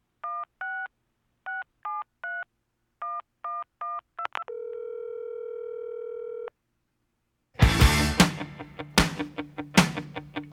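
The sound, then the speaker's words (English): Within a song, quick groups of touch-tone dialing beeps, then a steady telephone tone held for about two seconds, followed by a short silence before the loud song with drums kicks in. “And I believe that there's a phone in that song, so I wanted to request it.”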